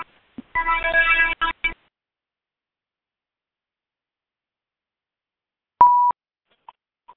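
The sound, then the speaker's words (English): A phone gives a short buzzy ringing burst, then falls silent before a single clear electronic beep and a couple of faint blips. No one speaks. “And unfortunately, I have to mute the phone again.”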